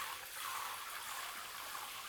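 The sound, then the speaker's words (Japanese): A steady hiss of water running from a simple portable shower kit set up on an island, a continuous spray rinsing off seawater, with no pauses and no voices. “家の者がこの島を貸し切りにしてくれましたし、簡易シャワーキットも家の者が設置してくれたので。ほら、限りがありますが、ちゃんと水が出ます。”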